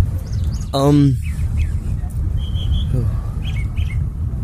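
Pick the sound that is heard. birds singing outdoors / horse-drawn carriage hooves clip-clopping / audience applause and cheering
birds singing outdoors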